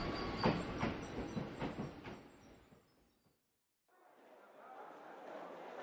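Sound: subway train running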